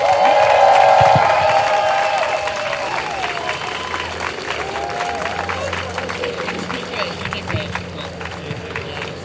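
A crowd claps and cheers steadily, with dense, continuous applause filling the room and a few whoops and shouts rising over it early on before settling into sustained clapping.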